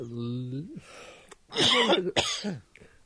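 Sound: coughing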